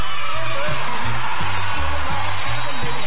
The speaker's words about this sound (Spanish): ¡El grito, familia! ¡El grito, el grito!